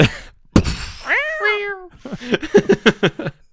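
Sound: kittens meowing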